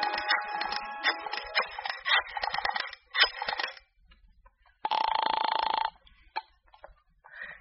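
A phone is dialed to call a shop, a rapid series of clicks and tones, then after a short pause a single loud, steady ring sounds, with no talking.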